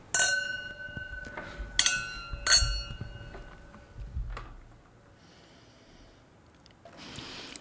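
Wine glasses clink together in a toast during a wine tasting, three or so bright touches with a lingering ringing tone, followed by quieter handling noise and a soft rustle.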